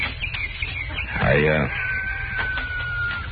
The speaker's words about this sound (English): You just wait till I finish feeding these hens.